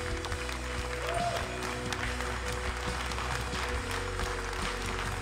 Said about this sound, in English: God has been faithful, and He will continue to be faithful. Can you guys give God a 2020 thank you clap right now?